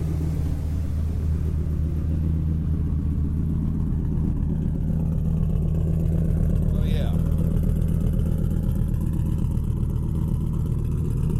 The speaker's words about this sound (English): visually you can see that the motor's got quite a bit of a miss in it. It's moving back and forth. I think as we move back towards the tailpipe, you'll hear the miss a lot more prevalent than you do here at the front.